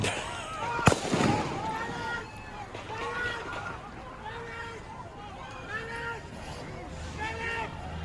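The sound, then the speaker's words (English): A single sharp, loud gunshot cracks out near the start, followed by a crowd of voices shouting and talking over one another in the street. “As he's walking back, it sounds like more fire.”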